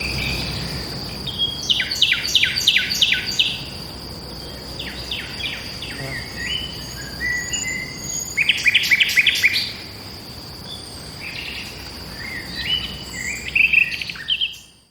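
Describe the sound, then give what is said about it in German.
A nightingale sings in short, clipped bursts of repeated notes, its strophes breaking off abruptly and not properly put together, with pauses between, over a steady, high-pitched insect drone, with no one speaking. “dass man fast gar nicht erkennen könnte, dass es sich um eine Nachtigall handle, wo also die Strophen abgebrochen werden und nicht richtig zusammengesetzt werden und man so eine Art Wortfindungsstörung hat.”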